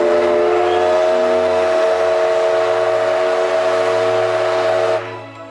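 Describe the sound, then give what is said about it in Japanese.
The whistle of JR West's D51-class steam locomotive No. 200, nicknamed Degoichi, blows one long, loud, steady blast over the low rumble of the running train, then stops abruptly after about five seconds. “平成26年秋、JR 西日本からデゴイチの愛称で知られる D51 型蒸気機関車200号機の本線運転復活が発表されました。”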